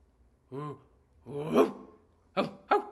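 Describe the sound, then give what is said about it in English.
A person imitates a dog barking with four short voiced yelps: two longer, drawn-out woofs followed by a quick pair of clipped barks, with quiet gaps between them. “Tell me in doggy talkie.”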